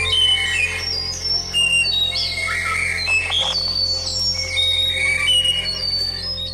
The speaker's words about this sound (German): Das ist die Weißkehldrossel. Die ist so groß wie ein Star und die kleinste aller Drosseln. Sie lebt in Laub- und Nadelwäldern, in denen es viele Sträucher gibt. Sie hält sich in der Nähe von Waldflüssen, Seen und Feuchtgebieten auf.